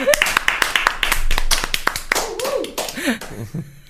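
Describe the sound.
An audience applauds after a chronicle segment, a dense, steady patter of many hands clapping, with voices calling out and cheering over it toward the end as the clapping thins.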